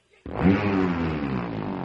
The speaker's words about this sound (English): The engine is running across the lake to the duck blind like all sane, courteous, responsible boatmen always do.